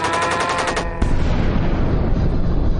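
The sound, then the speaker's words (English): A rapid, rhythmic chopping of helicopter blades breaks off after about a second into a sudden loud crash and explosion as the chopper goes down, followed by a steady, heavy roaring rumble of fire spreading everywhere and debris. “The chopper's down! Fire's everywhere.”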